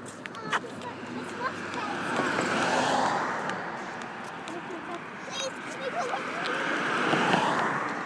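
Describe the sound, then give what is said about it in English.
Steady, broad rushing of a little creek flowing under a little bridge as someone walks over it, swelling louder twice before easing back, with faint indistinct voices in the background. “Walking over a little bridge thing, over a little creek.”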